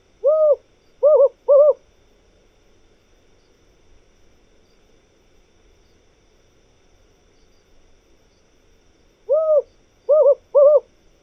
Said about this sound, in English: Take the desert owl, Strix hudurumi.